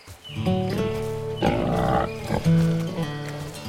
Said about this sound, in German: Oh, heiliges Schweineohr. Das sind ja totale Süßlinge. Wie die hier als Mini-Ferkelgang durch die Gegend rennen und wie hektisch sie das Futter aus der Hand fressen. Was für ein schönes, braunes Fell sie haben, wie ein Herbstblatt.